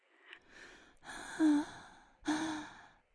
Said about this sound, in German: Wir atmen tief ein.